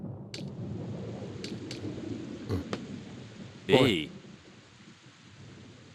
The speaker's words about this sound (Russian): Дождь пошел.